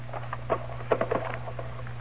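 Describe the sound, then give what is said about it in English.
A lock snaps open on a cash drawer in a bank: a quick cluster of sharp clicks and a small rattle, fairly quiet, over a steady low hum with no voices. “Just snapped the lock, that's all.”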